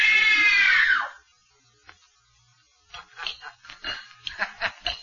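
During a scream test, a woman lets out a single loud, shrill scream of terror on direction, lasting about a second, then it breaks off into near silence before quieter voices or movement sounds follow.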